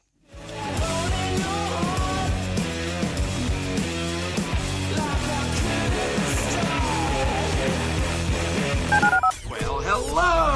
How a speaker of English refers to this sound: Dial the phone.